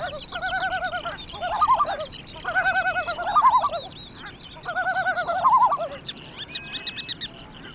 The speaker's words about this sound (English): Then, of course, for the few weeks, you have these breeding displays of the shorebirds going overhead. During times of the day, it can just be a wonderful place to sit and just listen to the sounds of the birds.